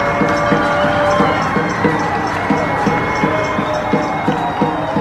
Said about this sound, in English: People in Silver Lake just screaming, banging their pots and pans, just trying to show love and cheer up the neighborhood.